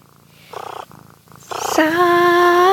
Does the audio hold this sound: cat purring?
yes